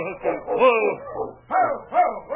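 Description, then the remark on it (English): The dog King gives a run of excited, yelping barks, several in quick succession, with a brief pause before two more sharp barks, in a moonlit clearing beside a cabin near midnight. “that sounds as if King found him”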